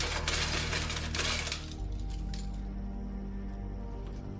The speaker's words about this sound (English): Paige rifles through keys on a side table.